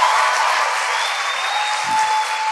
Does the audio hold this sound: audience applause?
yes